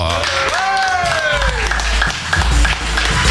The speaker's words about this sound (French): Alors pour tout ça, je demande à vous derrière vos ordinateurs ainsi qu'à vous qui êtes présents ici même dans le gros studio de réserver un tonnerre d'applaudissements